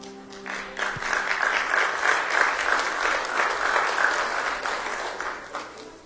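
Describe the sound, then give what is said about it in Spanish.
A Spanish-speaking church audience applauds steadily to welcome the afternoon preacher, a dense wash of many hands clapping that swells in the first second and holds at a fairly loud level before tapering slightly at the end. “Si eso fuera a mí, para mí está bien, pero para el Señor, quiero escuchar un aplauso más fuerte.”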